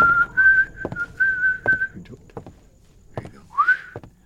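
A man whistles a melodic tune up close, holding steady sustained notes for about two seconds, then a few shorter rising whistled phrases with brief pauses and light clicks between them.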